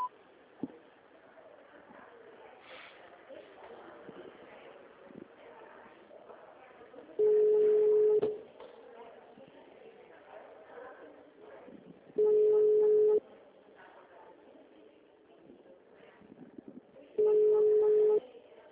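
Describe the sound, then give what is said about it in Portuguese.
A telephone line sounds three long, steady mid-pitched tones after an automated digital answering menu asks the caller to dial the desired extension. Each tone lasts about a second, spaced roughly five seconds apart, loud over a continuous low murmur of background noise. “Após o sinal, digite o ramal desejado ou aguarde.”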